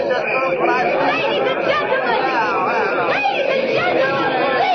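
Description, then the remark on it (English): A crowd at the ticket booth of the Sky Chaser ride, refusing to buy tickets: a steady wash of chatter, many overlapping voices talking at once at an even, moderately loud level throughout, with no single speaker standing out. “She's climbing up on the ticket booth. She's going to address the crowd.”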